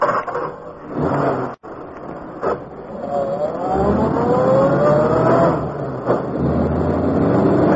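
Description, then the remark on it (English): A car engine turns over and catches, then revs up with a rising whine before settling into a steady idle rumble; a sharp click sounds early on. “Sounds pretty good.”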